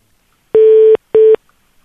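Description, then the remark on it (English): Two short electronic telephone keypad tones, a longer beep followed by a shorter one, as someone dials a phone to reach a person; loud, with silence around them and no talking. “That'll get her on the phone.”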